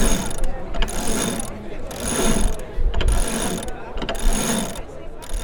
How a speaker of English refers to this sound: Everything can be done by some good electric winch.